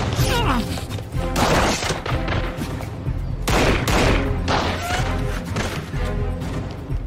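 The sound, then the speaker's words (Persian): Sniper rifle gunfire, fired from the top of a tower, rings out within a loud, sustained barrage of shots and crashing impacts, intense from start to finish with barely a pause. “تکتیر انداز از بالای برج شلیک میکنه.”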